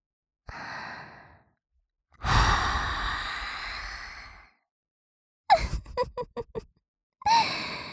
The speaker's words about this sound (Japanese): 息吹きかけられてびっくりしちゃったね。なーに？お耳弱いの？